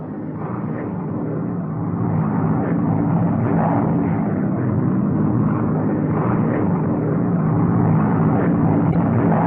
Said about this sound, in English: In the 38, you have a weapon which will help you do just that. It's a fighting man's airplane. Tough, rugged, reliable. Its high-speed performance is well known.